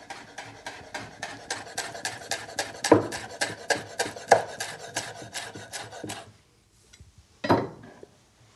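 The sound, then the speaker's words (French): A knife finely minces washed basil leaves, stacked and rolled, to sprinkle over tomatoes, in a quick, steady run of crisp, even taps for about six seconds, then a short pause and one last louder knock. “Je les enroule pour me permettre d'émincer très finement.”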